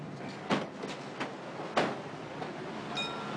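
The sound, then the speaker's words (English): A few dull mechanical clunks thump at uneven intervals as a car is filled up at a gas station, then a brief, faint high-pitched ding from the gas station hose bell rings out near the end. “Oh, that's just the gas station hose.”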